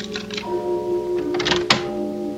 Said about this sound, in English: And then I heard it. A key was being inserted in the lock, and I could hear it turn.